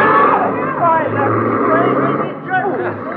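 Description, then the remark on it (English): A car engine rumbles low as a man drives the vehicle right off without stopping, partly buried under a crowd of overlapping excited voices, with a muffled, narrow-band sound. “Why, he's driving right off. He didn't even stop.”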